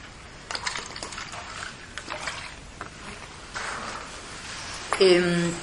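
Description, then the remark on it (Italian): Water is poured into a glass during a lecture, a light splashing trickle that builds toward the end, where a rising ringing tone marks the glass filling up. Moderately loud. “Prendo un po' d'acqua.”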